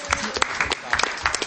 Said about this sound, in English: Let's give Craig a round of applause.